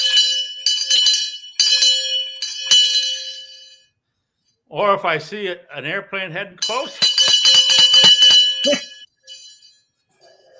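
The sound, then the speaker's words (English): A large hand bell, Santa's special bell for getting everybody's attention, is shaken vigorously in bursts, ringing loud, bright and clanging, then a person speaks briefly before the bell rings hard again under continued talk. “The one I ring when I want to get everybody's attention is a special bell.”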